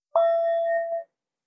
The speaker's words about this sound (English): There are ways that I remind myself to go out in the street with my whistle or whatever I do as a meditation teacher. Instead of a whistle, I have my bell.